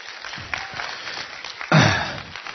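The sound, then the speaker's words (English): A weak, scattered round of applause from a small crowd, given for a pastor: soft, uneven clapping that briefly swells louder toward the end before fading again. No one speaks. “That's kind of weak, I thought. I said a great round of applause.”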